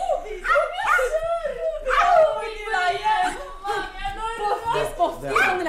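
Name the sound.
small dog barking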